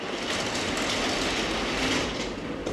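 A transparent garage door is pulled down, giving a steady, loud rolling rattle and rumble that lasts about three seconds without a break, with no talking.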